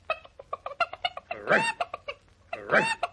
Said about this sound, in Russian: И что это ты, курочка, так раскудахталась? Одно, дорогой сосед, я раскудахталась, что с таким гребешком непременно стану я королевой Испании.